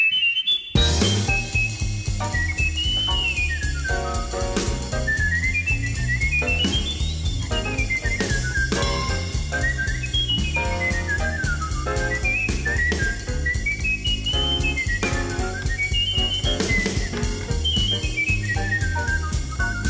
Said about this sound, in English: but before he made it big with his whistling, he hesitated to bring his music to the public. He didn't want to be known as a novelty act.